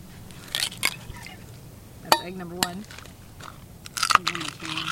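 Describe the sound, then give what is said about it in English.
Several sharp, crunchy cracks of raw eggs breaking, spaced irregularly across a few seconds, with soft wet handling sounds and brief bits of a voice between them; the eggs are cracked and mixed to make gore sound effects, with rags and paper towels dipped into them. “Supposedly, according to our instructions, we can make plenty of gore just using eggs and dipping rags and paper towels into them.”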